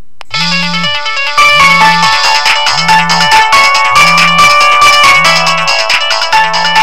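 A synthesized MIDI phone ringtone, Destiny.mid, set as the line 1 ringing tone in the phone's General profile, plays a bright, beeping melody with a steady repeating bass pulse, loud, continuing for several seconds without any talking.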